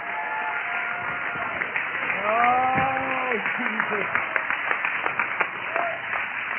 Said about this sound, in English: Somebody clap your hands and shout to God.